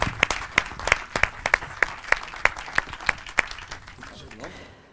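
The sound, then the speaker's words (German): Audience applause welcoming stage poet and storyteller Simon Lipsig, a steady patter of many hands clapping with sharp, bright claps standing out, fading slightly toward the end. “Ein grosser Applaus für den Simon Lipsig.”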